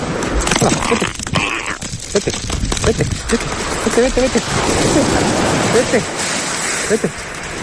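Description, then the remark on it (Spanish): Loud, continuous rushing of water and surf, with a few sharp splashes near the start as a penguin, found on a fisherman's hook at l'Albir, Spain, is released by him and quickly plunges back into the sea, and faint voices mixed into the noise. “Este es el sonido del vídeo que está en radiovenidor.es, en el que lo suelta y vuelve rápidamente al agua”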